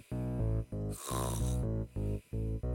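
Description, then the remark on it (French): Loud snoring of a man lying right up against the listener, with a deep rumbling rasp, repeating in a steady rhythm of quick breaths, one stretch turning into a harsher, noisier snort midway. No one speaks. “Quand je me suis réveillée, il ronflait, allongé tout contre moi.”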